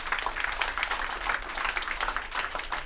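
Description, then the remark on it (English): A church audience in Puchong gives God a clap offering, a dense, continuous patter of many hands that stays fairly even in loudness for a few seconds, with no voices on top. “Can we give God a clap offering?”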